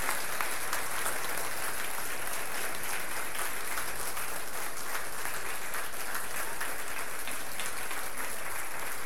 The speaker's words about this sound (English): Let's give these kids another round of applause, man. They were just amazing.